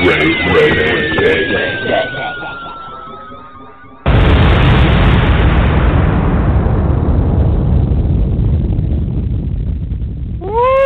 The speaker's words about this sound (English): Was that explosion the heart of Mike McCoy, Ray?